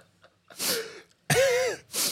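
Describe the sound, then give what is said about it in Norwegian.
A person imitates wet, snotty nasal sniffing: three loud snorting bursts, the middle one longest and mixed with a throaty voiced rasp, with no talking. “Bare, du hørte at det var noe i nasen av sånn.”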